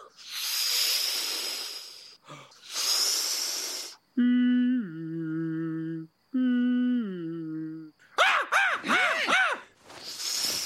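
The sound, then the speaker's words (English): Someone imitates soothing ocean waves with their voice: long breathy shushing hisses, then moaning hummed tones that step down in pitch, a quick warbling swoop, and another rushing hiss. “I'll just make some soothing ocean sounds for you.”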